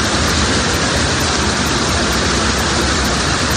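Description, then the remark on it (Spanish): Heavy rain pours down in Barcelona in a dense, steady, loud roar, with no break or change over a few seconds and no voices. “La lluvia intensa ha llegado ya a Barcelona.”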